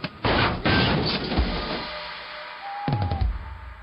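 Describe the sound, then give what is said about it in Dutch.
An old small truck, driven between tree trunks into an open clearing, suddenly falls apart in a loud crash, clattering metal tumbling for over a second, then a second smaller crunch and rattle of falling pieces. “Maar toen hij op de open plek in het midden kwam, viel het vrachtwagentje tot zijn verbazing plotseling uit elkander.”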